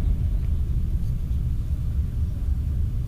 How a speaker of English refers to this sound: MiG-21 flying by the studio here.